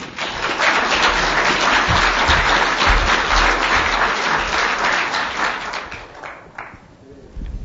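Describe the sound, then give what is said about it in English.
Sustained applause from an audience, a dense wash of many hands clapping for several seconds before thinning out toward the end. “I'm not really into this clapping.”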